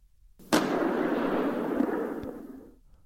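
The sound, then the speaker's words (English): A single loud rifle shot in a room, fired by Travis after he clicks the safety catch and raises the weapon: a sharp crack that swells into a deep, rolling rumble, fading slowly over about two seconds. No voices. “He heard Travis shift his rifle, click the safety catch, and raise the weapon. There was a sound of thunder.”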